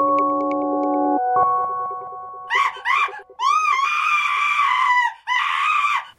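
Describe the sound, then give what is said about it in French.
A steady held tone plays, then a person suddenly screams: two short sharp cries followed by two long, loud, piercing screams, with no talking. “D'entendre quelqu'un crier tout d'un coup.”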